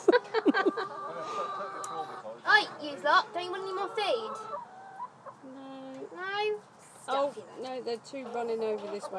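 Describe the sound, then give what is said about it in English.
Several chickens cluck and squawk in a busy, overlapping stream of calls, some short and choppy, others drawn-out and rising, as the flock mills around feeding. “I can only pick my chickens up when they're frightened out of their skin.”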